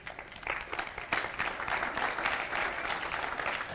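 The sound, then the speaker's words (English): A church audience applauds together after worship, a dense, steady wash of many hands clapping at moderate volume that holds evenly for a few seconds with no voices standing out. “It's hard to turn in your Bibles and clap and everything at the same time, isn't it?”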